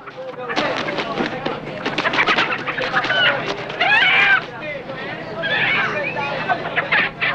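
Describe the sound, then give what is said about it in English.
A fighting rooster from a cockfight, held by a man aboard a crowded bus driving along a street, clucks and squawks in short bursts, with overlapping voices and chatter filling the background throughout. “One of the men from the basement is holding his bird from the cockfight.”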